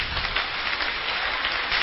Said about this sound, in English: Can we clap our hands for our God?